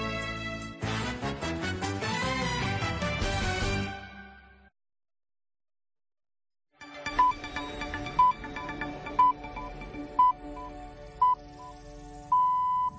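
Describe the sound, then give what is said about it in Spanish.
A series of short, high-pitched radio time pips about a second apart, marking 12:30 (11:30 in the Canary Islands), ending in a longer final tone, over a soft music bed; a burst of music and a pause come first. “Estas son las señales que marcan que ahora mismo son las 12:30, las 11:30 en Canarias.”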